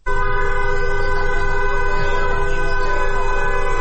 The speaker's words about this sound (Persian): در میدان تجریش تهران نیز گروه‌هایی از دخترانی که حجاب از سر برداشتند با همراهی پسران دست به راهپیمایی در منطقه زده و خودروهای عبوری نیز با بوق‌های ممتد از اقدام آنها حمایت می‌کنند.